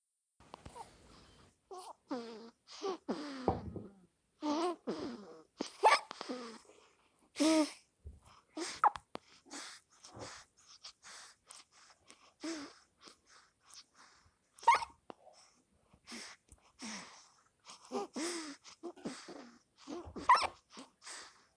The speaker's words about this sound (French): … a 1 mois et 1 jour. Et il a le hoquet.